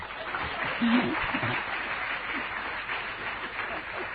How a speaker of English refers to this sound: See, we have to appreciate their honesty to be so courageous in a big assembly to raise their hands and speak up. So all of you give them a big applause.